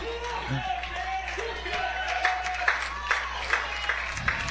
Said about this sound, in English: So the Charger fans once again on their feet, clapping.